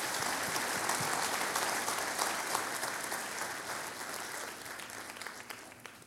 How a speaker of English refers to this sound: So thank you so much. One more round of applause for what God is doing.